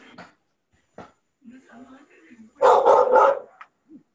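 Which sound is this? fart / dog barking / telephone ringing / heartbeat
dog barking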